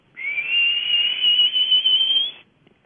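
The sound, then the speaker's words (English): A person whistles an imitation of a bird's call that sounds like a red-winged blackbird: one steady, high-pitched tone lasting about two seconds, gliding slightly upward, fairly loud and heard alone with no talking. “And it makes the same sound as a red-winged blackbird.”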